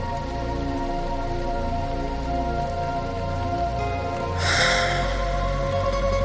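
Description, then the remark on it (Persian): Steady rain patters continuously over a soft sustained musical drone, swelling into a louder, brighter rush of rainfall near the end. No one speaks. “بارون که میزنه دلم میخواد چترم رو بردارم برم تو خیابون، از کنار آدم ها رد بشن بگم ببخشید چتر نمیخواین، باشون حرف بزنم درد و دل کنم.”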